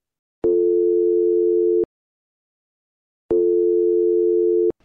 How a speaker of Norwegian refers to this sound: Han ringte.